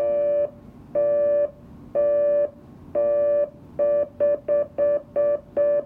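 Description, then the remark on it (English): A telephone reorder tone from a telephone tone plant, sped up: a buzzy steady pitch pulsing on and off, starting in even half-second bursts and then speeding up into rapid, short repeated beeps. No voices, just the tone. “So you got your reorder there.”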